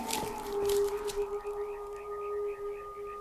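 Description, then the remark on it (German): A dog howls in one long, drawn-out note that holds a steady pitch, with faint wavering overtones above it, sustained for about three seconds with no voices. “Was ist denn das zum Teufel? Ein Heulen im Moor.”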